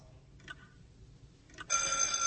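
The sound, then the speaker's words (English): A bright, rapid electric bell rings out loudly and steadily after a couple of soft clicks, signaling the start of a 20-minute exam for children, its metallic clatter holding for nearly a second with no talking. “We'll begin at the sound of the bell.”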